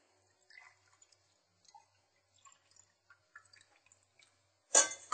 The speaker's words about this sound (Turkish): O zaman 2 bardak irmiğe 4 bardak su koyacaksınız. Şimdi 4 bardak su katacağım tenceremize.